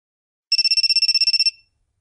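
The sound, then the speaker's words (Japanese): A phone ringtone trills in a rapid burst of evenly pulsed high tones for about a second, bright, then cuts off with a short fading tail. No one speaks. “あ、電話鳴ってるよ。”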